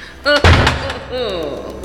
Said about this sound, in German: Nein, nicht die Tür schließen! Aufmachen! Aufmachen! Machen Sie auf! Verdammt, wir sitzen in der Falle.